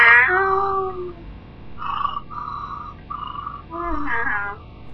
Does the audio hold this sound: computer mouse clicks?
no